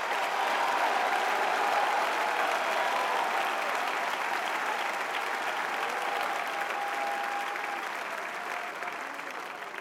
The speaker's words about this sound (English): Oh, clap your hands and shout!